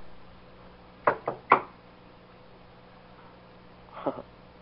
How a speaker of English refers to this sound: Listen, you hear me? I'm knocking on the door. You hear it?